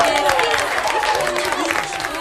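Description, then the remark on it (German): An audience at the end of a stage play cheers and shouts over steady, thunderous applause, a dense wash of clapping and voices that stays loud throughout. “Das Publikum jubelte und applaudierte donnernd.”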